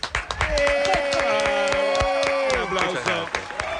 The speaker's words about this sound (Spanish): Fuerte el aplauso, fuerte por aplauso, favor. Auditorio.